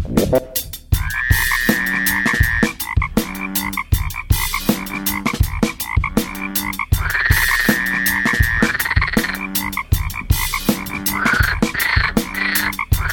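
Frogs croak steadily in a dense, rhythmic chorus of rapid pulsing calls that repeat in regular bursts, fairly loud, with no voices.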